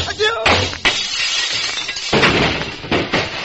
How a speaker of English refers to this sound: Oh, the moose. It's gone. The plate glass window blown to bits.